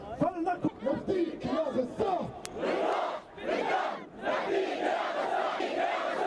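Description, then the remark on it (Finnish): A crowd of protesters outside the Israeli embassy in Jordan chants and shouts in loud, rhythmic bursts, many voices rising and falling together, with a brief sharp click partway through. “Mielenosoittajia Israelin lähetystön edustalla Jordaniassa.”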